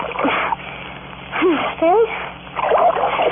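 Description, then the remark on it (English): Water splashes against a woman's face in a few short bursts as she is being revived, with her groaning, rising moans between the splashes. “I slapped her a little, used a little water.”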